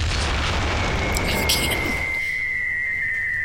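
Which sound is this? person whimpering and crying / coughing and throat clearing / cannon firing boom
cannon firing boom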